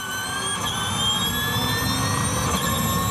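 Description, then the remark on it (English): A race car's high, steady whine with several layered tones creeping slightly upward in pitch, riding over a constant loud whoosh of rushing air for about three seconds, with no voices. “It's a whine and a whoosh.”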